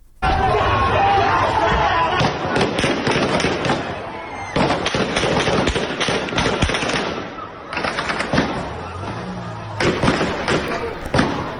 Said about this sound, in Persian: و از جمله در پاوه که در ویدیوهای منتشر شده از پاوه درگیری‌ها و صدای تیراندازی در اون بسیار گسترده و مشهود هست.